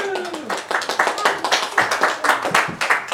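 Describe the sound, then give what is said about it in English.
An audience at a church event applauds with dense, steady clapping that fills the whole stretch, opening with a brief rising-and-falling whoop over the claps. “Applause!”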